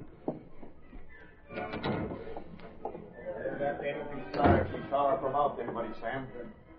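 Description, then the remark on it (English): The service door in a kitchen opens with a short burst of creaks and clatter, followed by a louder thump midway, while muffled voices murmur underneath. “Sounded like the service door in the kitchen.”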